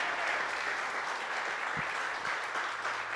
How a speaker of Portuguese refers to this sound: Aplauda e glorifica Jesus, porque é para Ele.